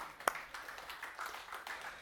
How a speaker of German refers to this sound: Dürfen wir schon klatschen, oder?